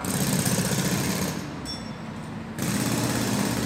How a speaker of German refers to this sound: Bratislava im vergangenen Dezember. Baukräne und Baustellenlärm prägen die einst etwas schläfrige ehemalige Provinzhauptstadt, die sich im letzten Vierteljahrhundert zur Metropole gemausert hat.